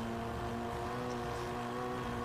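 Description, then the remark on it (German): A steady, droning car engine from a racing video game being played in a studio, kept at low volume to avoid feedback, hums continuously at a low, even pitch, fairly quiet and unchanging throughout, with no voices. “Wir hören ja jetzt das noch, Spiel noch nicht so laut, damit es hier keine Rückkopplung im Studio gibt, aber ja.”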